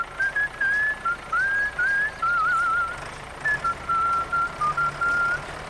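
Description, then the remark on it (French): A person whistles a bright, bouncy melody of short and held notes rising and falling, clear over a faint background hum, with no talking. “toi aussi, tu pourrais siffler en travaillant.”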